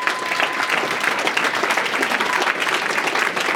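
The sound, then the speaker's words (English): A crowd claps steadily, a dense wash of applause from many hands that fills the whole stretch at an even, fairly loud level with no voices breaking through. “Give that man a round of applause, please.”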